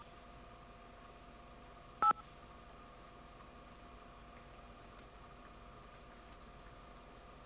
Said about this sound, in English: I guess they're demonstrating what touch tones sound